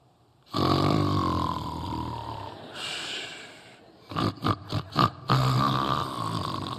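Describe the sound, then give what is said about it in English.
A man's voice imitates loud snoring: long, rumbling inhaled snores broken by a quick run of four or five short snorts, then another drawn-out raspy snore. “All the wives looking at them, see, that's just how you sound, just how you sound.”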